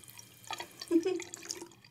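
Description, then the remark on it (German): Water runs from a bathroom tap in a house, a steady splashing stream with small dripping, trickling sounds, no voices over it. “Aus dem Wasserhahn.”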